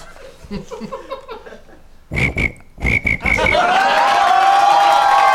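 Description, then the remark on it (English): A person mimics cricket chirping with a few short, raspy chirp bursts, then a long, loud, continuous trilling whistle. Softer vocal sounds come just before the imitation. “All right, give it a try. Do a cricket noise.”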